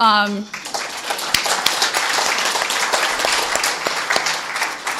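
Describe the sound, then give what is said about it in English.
A short vocal sound at the start gives way to an audience breaking into dense, steady applause for newcomers who introduce themselves, many hands clapping at an even loudness that continues to the end. “Now, we all applaud you.”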